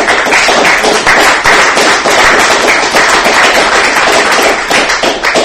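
A crowd applauds steadily, dense overlapping claps forming a loud, continuous wash of sound with no voices, holding even for the whole stretch.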